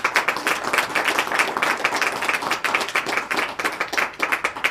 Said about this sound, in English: So if I could get a round of applause for those partners.